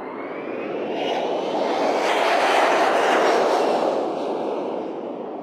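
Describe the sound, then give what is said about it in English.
A Hawaiian Airlines jet airliner roars by on takeoff, a loud, broad rushing rumble that swells to a peak midway and then slowly fades, with no voices present. “That is the Hawaiian Airlines jet taking off.”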